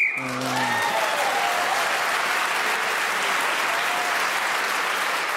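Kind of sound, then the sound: signal or alarm, whistle ending the round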